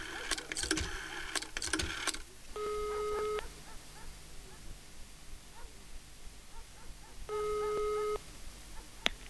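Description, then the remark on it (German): A telephone is dialed to make a call, with a quick flurry of clicks and beeps, followed by two steady ringing tones heard through the earpiece, spaced several seconds apart over a faint hiss. “Ich muss mal kurz telefonieren.”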